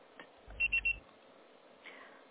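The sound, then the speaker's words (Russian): Three short, evenly spaced electronic beeps in quick succession, a voicemail tone signalling the start of recording after the called subscriber does not answer, heard clearly over a faint low hum on a quiet phone line. “Пожалуйста, попробуйте перезвонить позднее, или оставьте сообщение после звукового сигнала.”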